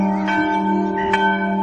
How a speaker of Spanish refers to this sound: Siendo adolescente, escribió sobre el funeral de su padre, que se celebró en esta iglesia, en la que tiempo atrás había predicado. Nunca dejaré de oír los sordos tañidos de aquellas campanas.